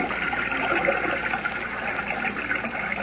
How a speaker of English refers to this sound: Now to fight my way back against this current. Oh, wait. Maybe I won't have to. There seem to be pinpoints of light up ahead. What? They're stars. Evidently, this river does flow above ground beyond the falls. Well, that's a relief.